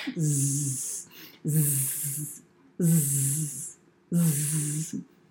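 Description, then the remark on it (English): A voice imitates snoring four times in a steady rhythm, each cycle pairing a low, buzzing throaty snore with a loud breathy hiss, with short pauses between. “Amy snored.”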